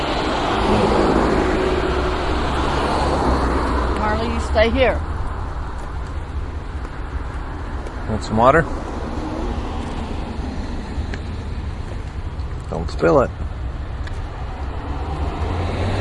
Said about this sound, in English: Here comes a train